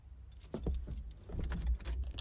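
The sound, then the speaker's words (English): A ring of keys, an ignition key and a door key for an old truck, jingles and clinks in a few quick metallic bursts, with a low vehicle rumble running steadily underneath. “You know it's old when you got a key for the ignition?”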